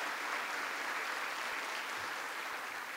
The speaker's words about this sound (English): A former colleague of mine in the Illinois State Senate, who is now a congressman from the great state of Illinois, Peter Roskam, is with us here today, so give him a big round of applause.